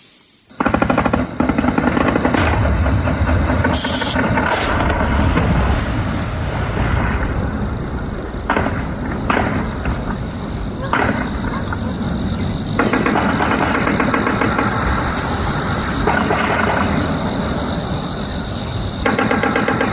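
Continuous loud machine gun fire in rapid, repeated bursts over a steady droning buzz of drones during an attack at dawn, recorded by a resident from a neighbouring mountain; the drones take off from a town football pitch. The sound fills the whole clip without letup; no one speaks.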